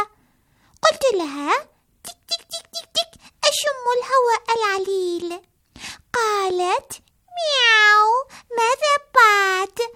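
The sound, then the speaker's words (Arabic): A child's voice repeatedly mimics a cat's meow, drawn-out rising and falling calls in a lively, bouncy rhythm, clear, with short clicking sounds imitating a sparrow scattered between them. “قالت لي مياو مياو، ما الذي تفعلينه هنا يا عصفورة؟”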